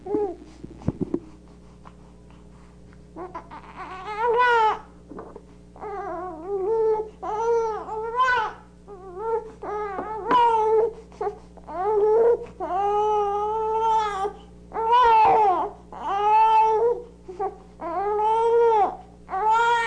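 A baby boy cries and howls in a long run of loud, wavering wails, each lasting about a second with short breaths between, building steadily with no one talking.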